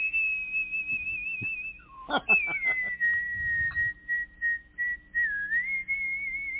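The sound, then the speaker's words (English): A person whistles a theme tune, steady and fairly high, the pitch sliding gently between notes over several seconds, with a few soft clicks and thumps partway through. “I think that would be awesome to teach the parrot to sing the Kohl Shack theme, to whistle the Kohl Shack theme”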